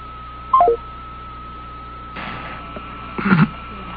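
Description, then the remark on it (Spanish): Telephone dialing tones as a call is redialed: a steady line tone runs throughout, broken by a few short bursts of key-press beeps, with no voices. “Vamos a restablecer la llamada”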